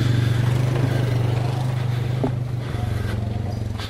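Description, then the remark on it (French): A small approaching quad bike engine drones steadily, a low buzzing rumble with a slight drop in pitch partway through. It stays at an even loudness throughout, with no voices. “C'est un véhicule qui approche. Voilà, c'est un quad.”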